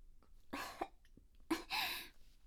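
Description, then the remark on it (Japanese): A stifled burp held back in the throat: two short, breathy bursts of air, the second longer, with no talking around them. “あ、ゲップ出そう。”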